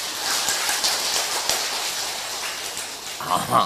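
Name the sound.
audience applause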